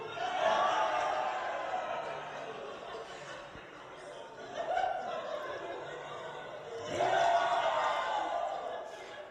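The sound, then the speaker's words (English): A small family group cheers and whoops excitedly "woo, yay" at a baby in three bursts, with laughter mixed in, fairly loud, dipping briefly between each outburst. “Well, with mom or dad or somebody in the family, whenever baby did this, they went, woo, yay.”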